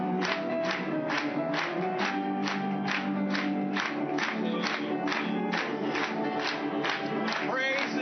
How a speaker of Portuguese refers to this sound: Batendo palmas pra ele.